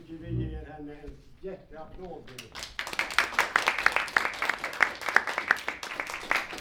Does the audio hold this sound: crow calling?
no